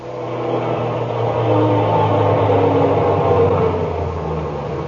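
A garbage truck coming back from its run; its engine rumbles with a low, steady drone and layered mechanical hum, growing slightly louder as it approaches and then holding at a constant level. No one speaks.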